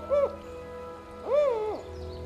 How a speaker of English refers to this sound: Our walk takes us deeper into the woods, into the habitat of the most celebrated creature of the ancient forests, the northern spotted owl.